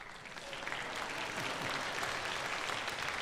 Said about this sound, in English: That's the title of the sermon. You can applause if you want. It's the title of the sermon. Applause is addicting, isn't it? Something about it that is addicting.